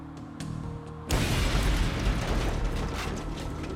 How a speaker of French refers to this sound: L'explosion fut dévastatrice.